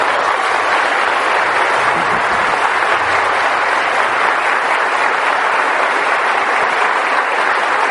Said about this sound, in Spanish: aquí le damos el primer aplauso a ese Espíritu.